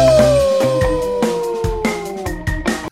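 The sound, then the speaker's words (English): A single long coyote howl glides slowly downward in pitch, loud, while steady percussive thumps beat underneath like a short musical sting. No one speaks. “All right, how about now, a fun fact about coyotes.”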